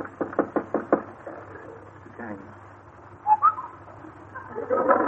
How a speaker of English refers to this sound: All right. Knock on his door. He'll probably still be in bed.